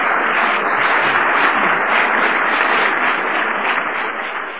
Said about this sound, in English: And you're applauding yourself, by the way, when you do that, so I thank you, but really you're the ones that are responsible for that.